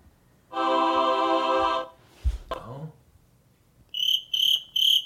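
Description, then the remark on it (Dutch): A cricket chirping sound effect chirps three times in quick succession, bright and fairly loud, after a sustained buzzy tone and a brief rustling clatter earlier on. “Een krekeltje.”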